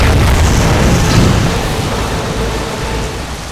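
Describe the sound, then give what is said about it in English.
A door bursts open with a heavy thudding burst that gives way at once to a loud, steady roar of rushing flood water, dense and rumbling, easing only slightly over a few seconds. No voices. “The door in front of them burst open, carrying them forward in the rush of the current.”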